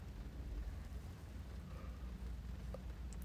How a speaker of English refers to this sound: Listen to the rain. It's so soothing, so relaxing. And it's such a complex sound, too.